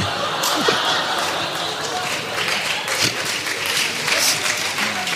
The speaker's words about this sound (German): Die Leute klatschen. Ja, die Leute klatschen. Besinnungslos. Du kannst ihnen jetzt alles sagen.